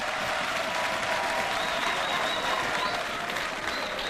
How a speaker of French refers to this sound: Maralba Malachek, applaudissez-le s'il vous plaît.